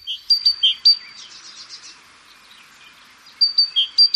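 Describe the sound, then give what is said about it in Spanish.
A great tit, a small forest bird, sings bright, high two-note phrases repeated in quick bursts, with softer twittering between the phrases. No one speaks, and the bird sounds clear. “Esto es un carbonero.”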